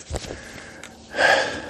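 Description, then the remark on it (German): Heavy panting while walking in a forest: a few short, ragged breaths followed by a louder, drawn-out gasping exhale, with no talking. “Ich bin wieder am Keuchen.”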